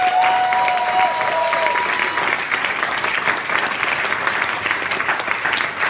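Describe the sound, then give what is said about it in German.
An audience at an event claps steadily for several seconds for the technical crew, a dense, sustained wash of many hands at a fairly loud level, with a faint tonal whistle or feedback line briefly at the start. “Auch bitte für die Technik einen Applaus.”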